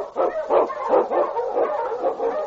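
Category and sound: animal, eskimo sled dog barking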